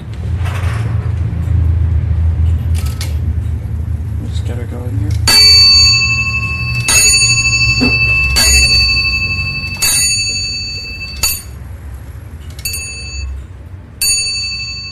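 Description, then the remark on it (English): A repeating bracket clock of London origin, about 1760, with a brass arch dial, strikes on small bells after its repeat cord is pulled: a cluster of quick, faint chimes, then a steady series of bright, ringing strikes about a second and a half apart, over a low background rumble. “you will get whatever hour or quarter struck on bells that it happens to be”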